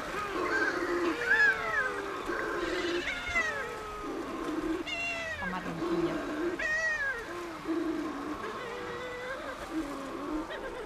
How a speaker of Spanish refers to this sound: la pardela balear, que es una especie que cría solo en el Mediterráneo, casi solo en Baleares, está en peligro de extinción y tiene una voz aún más sutil. Bueno, sutil. Es más delicada.